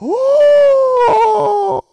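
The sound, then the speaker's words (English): A single drawn-out vocal moan sweeps upward, then holds a steady, slowly sagging tone for nearly two seconds before cutting off, a person mimicking a whale's call. “Boy, he's about to make whale noise now.”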